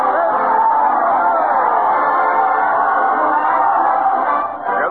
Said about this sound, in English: Listen to that proud cheer as Fred Allen leads his parade of stars to the old Town Hall.